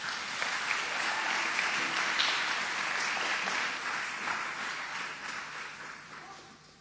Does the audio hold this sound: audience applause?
yes